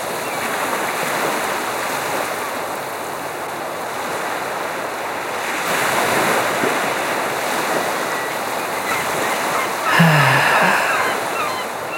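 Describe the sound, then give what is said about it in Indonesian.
Sea wind blows steadily along the shore, a continuous airy rush mixed with surf, swelling midway and gusting briefly louder near the end, with no voices. “Angin laut selalu sama. Selalu segar.”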